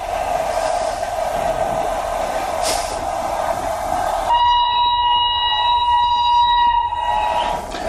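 A train rumbles along steadily, and partway through a loud, sustained horn blares for a few seconds over the running noise before cutting off near the end.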